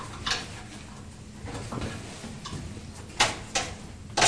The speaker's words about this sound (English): Let's open it. Stuck, can I open the drawer? There you are. Open this drawer. Open this drawer. There's nothing in that drawer, is there?